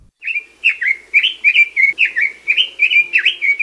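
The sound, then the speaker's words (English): A red-billed leiothrix, a non-native bird living in Hawaii, sings a rapid, continuous run of bright warbled phrases, loud, with a faint low hum underneath and no talking. “Red-billed leothrix are one of the prettiest non-native birds that live in Hawaii.”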